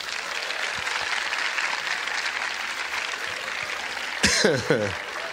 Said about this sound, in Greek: Πώς το έχετε κάνει αυτό ένα χειροκρότημα?